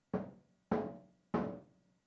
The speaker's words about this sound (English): I just stand at the door and knock.